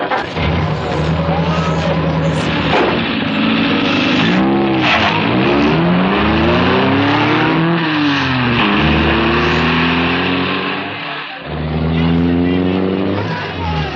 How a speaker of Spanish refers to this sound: han abandonado el banco, dejando una estela de pánico al abordar sus autos blindados.